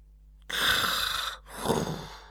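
A rasping snore: one long noisy inhale followed by a shorter breathy exhale, heard alone with no talking. A human voice appears to be imitating the snore of a man, asleep on a couch in the drawing room with a silk pillow under his head.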